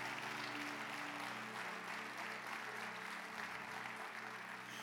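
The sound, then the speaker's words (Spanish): An audience applauds steadily for about five seconds, a dense, even wash of clapping hands at consistent loudness, with a faint low hum underneath and no clear talking. “Se me olvidó decirles que no podían aplaudir para que no se asustara, pero gracias a Dios y al Espíritu Santo le tapó los oídos.”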